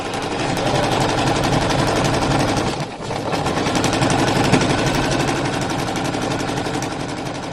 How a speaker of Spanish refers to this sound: Ahora te contaré, pero esto que suena es uno de los grandes inventos de la historia de la humanidad, ¿eh? una máquina de coser.